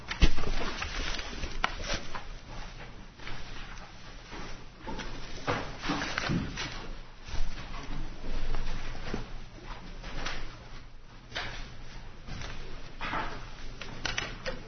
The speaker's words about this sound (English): let's give it a little time for the rustling in the back to die down. Very well. I'm assuming that it's not you in particular that's driving large numbers of lawyers out of the room.